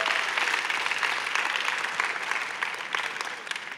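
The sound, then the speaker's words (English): An audience breaks into sustained, dense applause, many hands clapping at once in a steady wash of sound that holds strong throughout and eases off only slightly at the end. “to coin a phrase, let rip, as in applaud, for goodness sake.”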